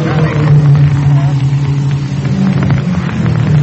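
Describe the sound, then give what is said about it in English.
Race car number 47, the automotive service special, drones steadily at low pitch as it rolls into the pit during a race, loud and continuous with a rough, rumbling texture and a faint wash of crowd noise underneath. “It's number 47, Shorty Kaplan, who is in fourth place for a lot of laps, is coming in and pulling into the pit.”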